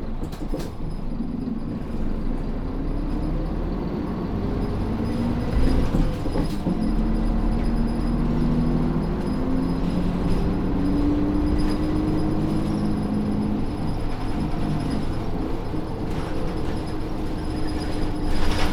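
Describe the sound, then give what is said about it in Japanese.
A train pulls away and runs steadily along the rails, a continuous low rumble with rising and falling mechanical tones, loud, with no voices. “発車します。”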